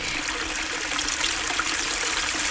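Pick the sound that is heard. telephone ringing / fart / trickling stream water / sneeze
trickling stream water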